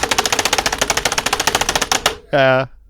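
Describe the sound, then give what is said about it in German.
Frantic, rapid clacking of computer keys hammered in a fast, steady burst for about two seconds, loud, followed by a short buzzy tonal blip; a person imitating the typical typing sound of a hacker. “Wir vergewaltigen unsere Tastatur.”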